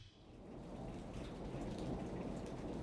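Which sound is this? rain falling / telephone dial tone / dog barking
rain falling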